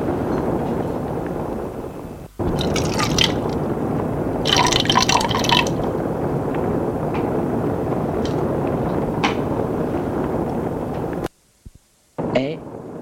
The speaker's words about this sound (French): L'homme lui demande : je vous sers un bourbon ? Oui, merci. Et il le sert.